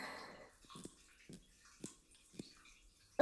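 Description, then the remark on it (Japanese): Water from a shower hose with the shower head removed gushes briefly, then fades into a few sporadic splashes and knocks spaced about half a second apart, echoey, with no talking. “今度はこれ、シャワーヘッド外してみて。”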